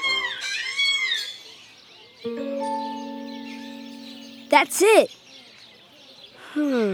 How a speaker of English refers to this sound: Let's listen to another. This is the African gray parrot.